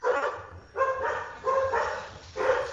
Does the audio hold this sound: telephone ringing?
no